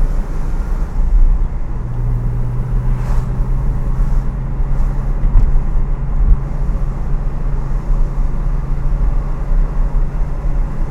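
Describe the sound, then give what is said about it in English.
A car engine being revved runs with a loud, steady low rumble, a sustained humming tone settling in after a couple of seconds and holding with only slight shifts in pitch. No one speaks. “Ranger John was asking about engine revs, so we're going to discuss revs.”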